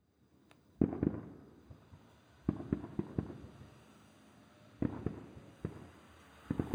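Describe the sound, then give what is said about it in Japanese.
Distant fireworks from a fireworks festival in the neighbouring prefecture go off in scattered clusters of muffled booms and crackling pops, several bursts in quick succession, then pauses before the next volley, with no one speaking. “そういえば今日は、隣の県でも花火大会があるんでしたわね。”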